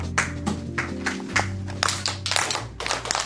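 A teacher claps out a rhythmic pattern of sharp hand claps, about eight or nine crisp smacks over a few seconds, with a steady low hum and faint classroom noise beneath.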